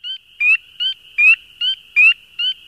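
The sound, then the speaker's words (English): Spring peeper frog calls: about seven sharp, high, piercing peeps repeated rapidly and evenly, loud, over a faint steady high-pitched chorus with no talking. “Their call sounds like a sharp, piercing bird-like peep, repeated rapidly about once per second.”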